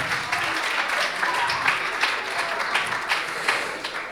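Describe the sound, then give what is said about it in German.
An audience applauds steadily for the Radioaktivgruppe after it is awarded 38 points in a scored competition, a dense crackle of many hands clapping at an even, fairly loud level with no break, and no voices on top. “Das heißt, wir haben 38 Punkte für die Radioaktivgruppe. Und Applaus.”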